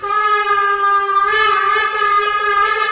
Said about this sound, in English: The sound of the shofar, a ram's horn, at the St. Regis Hotel in Abu Dhabi was the signal for the beginning for the talks as the Israeli delegation met with UAE negotiators.